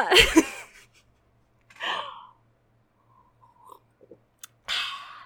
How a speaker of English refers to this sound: I like to sip my vodka because I'm weird. Like I said, it's a very cheap vodka and yet so tasty with its weird slight aftertaste of whiskey.